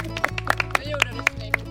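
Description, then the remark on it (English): A few people clap in a brief, uneven patter of sharp slaps, over a steady low hum in the background; the applause, led by a boy's grandfather, follows the boy lighting the fuse of a sun cannon. “His grandfather leads us in a round of applause.”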